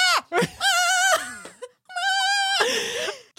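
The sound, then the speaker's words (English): A person vocally imitates the cute caribou from a film, the one seen when the train stops among a huge herd, with two long, wavering, nasal bleats separated by a short pause, loud and strained, resembling a goat's bleat. “You know when the train stops and there's like 1,000,000 caribous and the caribou is just going...”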